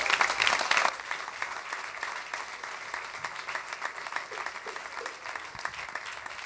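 Audience applause for the event's announcer before the last song, a dense wash of many hands clapping that swells loud at first, then settles into steady, sustained clapping for several seconds.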